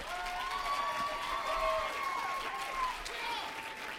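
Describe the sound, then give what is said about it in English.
An audience claps their hands and shouts together, a dense, steady roar of applause mixed with raised voices and whoops that holds at the same loud level throughout. “Everybody that wants to do that, clap your hands and shout.”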